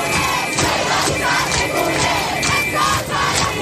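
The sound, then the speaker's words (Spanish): Thousands of people gathered at the tomb of Mahsa Amini in Iran, marking 40 days since her death, shout "woman, life, freedom" in loud, rhythmic unison, voices rising and falling in repeated chanted bursts over a constant roar of many people, with no single speaker standing out. “Allí han gritado mujer, vida y libertad, y ha habido enfrentamientos con los agentes de la autoridad.”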